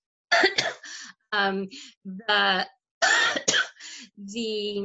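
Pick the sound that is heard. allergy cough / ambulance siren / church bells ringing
allergy cough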